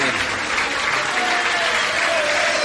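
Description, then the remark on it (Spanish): A crowd claps loudly and steadily as a man's father is called up onto the stage, dense applause filling the space without pause, with a faint murmur of voices mixed underneath. “Un aplauso muy fuerte que va a subir el padre de Ricky acá.”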